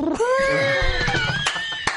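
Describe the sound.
A person imitates a dove with one drawn-out, wavering vocal call that slides up and down in pitch for about two seconds, fairly loud and heard on its own without talk.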